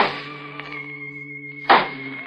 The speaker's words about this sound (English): I picked up the cane and began tapping on the floor.